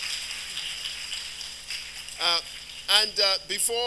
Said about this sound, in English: Can we just clap and thank God for them, amen?